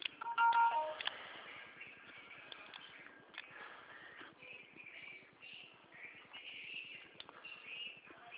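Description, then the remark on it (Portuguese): A telephone dialing: a brief electronic beep at the start, then several seconds of thin, muffled line noise with faint scattered clicks and tones while the call connects. “Tá ligando, senhora.”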